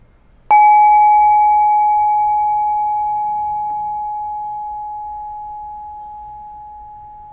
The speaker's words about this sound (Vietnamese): Đời mình thả lỏng, mình lắng nghe tiếng chuông.